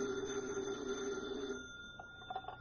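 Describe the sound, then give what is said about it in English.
The telephone on Special Agent Jim Taylor's desk at an FBI field office rings with a steady electric bell tone that stops partway through, leaving faint room noise and a few light clicks behind. No one speaks. “Special Agent Jim Taylor is at his desk when his phone rings.”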